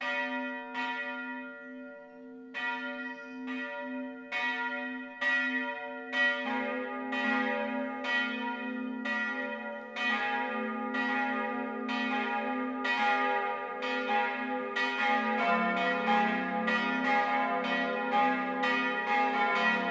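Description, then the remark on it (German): Several church bells of the Catholic town parish church St. Michael in Stadtsteinach, Upper Franconia, ring the 12 o'clock midday chime together in a dense, overlapping peal, strokes coming in a steady, continuous rhythm with a low humming tone underneath. No voices, just the bells sounding loudly throughout. “Das Mittagsläuten kommt heute von der katholischen Stadtpfarrkirche St. Michael im oberfränkischen Stadtsteinach.”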